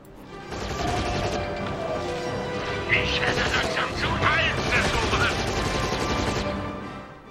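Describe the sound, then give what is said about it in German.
Third-person shooter video game combat: dense, continuous gunfire from flashy weapons and crashing explosions as enemies are cleared out, loud and busy for the whole stretch, with whistling effects and indistinct voices mixed into the chaos. “Aber schon kurz danach gibt es wieder pausenlose Third-Person-Shooter-Action, wo man mit knalligen Waffen so richtig aufräumen kann unter den Gegnern.”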